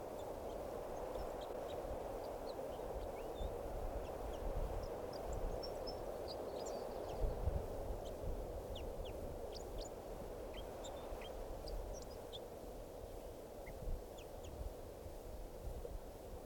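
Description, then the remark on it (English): Wild birds recorded at 3:05, about two in song and one giving calls: short, high chirps and calls come scattered throughout over a steady low rumble of background noise, with no voices. “So, and one of the birds is getting some calls here.”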